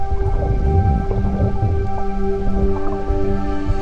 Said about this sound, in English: This is actually what they call a rain shower. Yeah, I like that. And you go underwater and you listen to the rain shower. Give it a try.